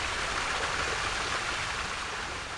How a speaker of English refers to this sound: Springtown's historic Big Spring, which is on their property, produces nearly 3.5 million gallons of cold, clear water per day, one of the largest springs in Benton County.